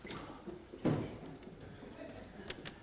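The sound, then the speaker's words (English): A second small door is opened by a helper: one soft clunk, then a couple of faint light clicks a moment later, with quiet background murmur throughout. “You're opening that door.”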